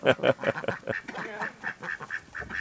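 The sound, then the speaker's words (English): Several ducks in the countryside quack in quick, overlapping bursts at feeding time, a busy chorus of nasal calls with steady rhythm throughout, no talking over them. “I want to hold a duck.”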